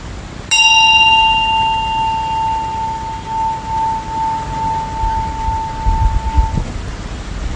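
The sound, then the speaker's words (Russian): A small bell is struck once to end a meditation session, its clear high tone ringing out and slowly fading over about six seconds against a low background rumble. “Начинаем и заканчиваем со звуком колокольчика.”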